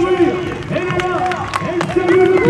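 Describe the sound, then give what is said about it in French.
A crowd of spectators applauds steadily as a runner wins alone at the finish of a muddy 7760-metre women's race of Pays de la Loire and Centre-Val de Loire runners, scattered claps rising over a busy mix of voices and cheers, with a sustained tone running underneath throughout. “sociétaire de l'Entente des Mauges, fait cavalier seul une belle victoire sous les applaudissements.”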